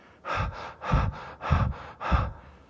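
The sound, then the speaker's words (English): A voice imitates a woman's labored, gasping breathing: four heavy, ragged breaths in a steady rhythm, fairly loud, each a harsh rush of air with brief pauses between. “Can I remind you how she was breathing?”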